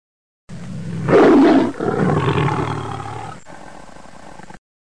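A tiger lets out a loud, deep roar that swells into a throaty growl, then rumbles on more softly for a few seconds before fading. No one speaks.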